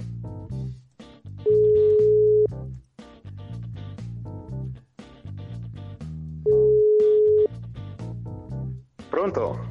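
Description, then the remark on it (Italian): Two long beeps of a telephone ringback tone on an outgoing call to an artist, each lasting about a second with a pause between, sound clearly while people talk over and around them. “Eccolo, squilla.”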